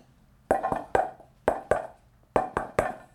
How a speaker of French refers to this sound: Mon voisin, je sais quand c'est lui qui vient. Parce qu'en fait, il a mis un code pour frapper à la porte. Donc si on entend...